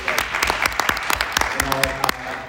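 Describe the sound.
An audience applauds with steady, dense clapping from many hands, fairly close and moderately loud, and a brief voice rises over the clapping near the end.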